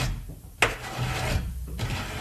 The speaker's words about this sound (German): Ein Kratzen an ihrer Tür. Was ist das wohl?